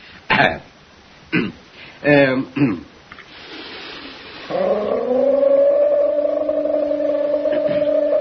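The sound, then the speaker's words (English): A voice imitates a leopard cry with four short, harsh, rasping grunts, then a long, steady droning tone held for several seconds, with no other talk. “Well, of course, I haven't practiced the leopard cry in a long time.”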